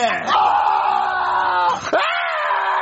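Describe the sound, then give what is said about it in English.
A loud, sustained scream from a single voice, held for a couple of seconds, briefly breaking, then resuming at full strength, intense with no other sounds around it; a person screaming from a bad dream. “why are you screaming like that?”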